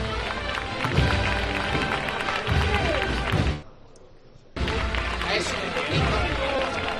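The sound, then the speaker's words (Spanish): A crowd in Cádiz, Spain, applauds a religious brotherhood (hermandad) and its Paz de Fátima procession float on the official route, a dense, steady wash of clapping that cuts out for about a second midway, then resumes just as loudly until the end. “Los aplausos por esa valentía que ha tenido la hermandad.”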